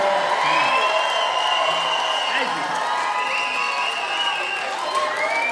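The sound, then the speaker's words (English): A large crowd cheers and shouts steadily, with overlapping whoops and voices that stay loud and continuous throughout, no single voice standing out. “I gotta tell you, we've all had to sit things out, but man, does it feel good to get in front of a crowd like you.”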